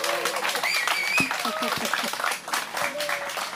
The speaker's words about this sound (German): Und wir haben sogar Publikum. Vielleicht möchte das Publikum sich kurz bemerkbar machen, dass man auch später hört, hier ist richtig was los in Weimar.